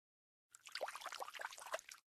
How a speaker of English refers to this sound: And into the water went the cat with a splash.